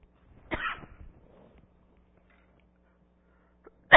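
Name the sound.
coughing fit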